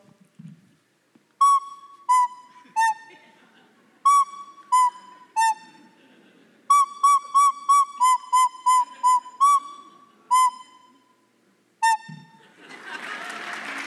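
A recorder plays a simple tune of short, clear high notes in halting phrases, mostly hovering around one pitch with a few lower steps, followed by a burst of applause.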